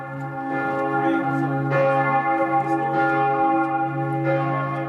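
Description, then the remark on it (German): Several large bells of the Dormition Abbey on Mount Zion in Jerusalem ring continuously together for a night vigil on Christmas Eve, their deep overlapping tones sustaining and swelling with new strikes roughly every second, loud and resonant with no voices present. “Die Glocken der Abtei läuten zu einer Vigil, einer religiösen Nachtwache mit liturgischen Texten, Gebeten und viel Gesang.”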